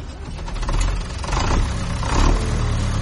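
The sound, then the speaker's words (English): A heavy tractor engine rumbles steadily, its low drone swelling as it revs a couple of times, with some rattling and clatter mixed in and no voices. “You want to go sail on the tractor?”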